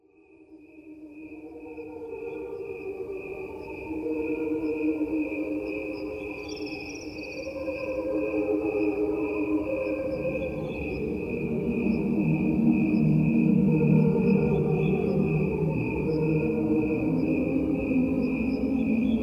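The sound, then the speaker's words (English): A recording of crickets chirping at regular speed: a steady, continuous high-pitched trill layered over a dense, swelling bed of lower, choir-like tones that grow fuller toward the end. “Hearing is a recording of crickets.”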